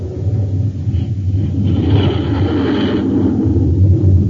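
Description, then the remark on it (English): A Scorpion jet fighter, a 20-ton aircraft 53 feet long with a 56-foot wingspan and rocket pods on the wingtips, roars on takeoff, a loud, steady engine rumble heavy in the low end that swells slightly midway and holds for several seconds with no voices. “The Scorpion takes to the air like magic.”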